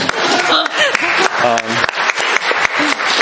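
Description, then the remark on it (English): An audience applauds steadily as speakers are introduced, a dense wash of many hands clapping, with a voice briefly audible through the noise partway through. “You can clap too if you want.”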